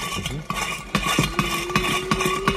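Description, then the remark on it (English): A big spinning toy top with a train on it whirs with a steady, humming drone, broken by regular light metallic clicks that repeat about twice a second. “It makes a sound.”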